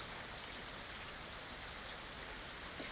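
Steady rain pours down, a dense continuous hiss with drops pattering and splashing on surfaces, with no voices and an even loudness throughout.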